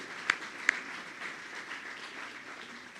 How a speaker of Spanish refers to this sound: Vamos a darles un gran aplauso a los dos. No sé si están aquí, pero si están, un gran aplauso.